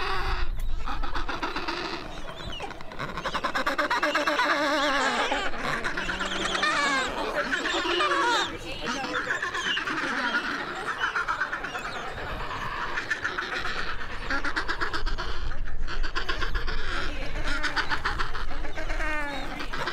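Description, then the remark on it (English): A dense chorus of Adélie penguins calling across a colony in Antarctica, overlapping brays, squawks and chattering cries, loud and continuous throughout with many birds. “So these are Adélie penguins.”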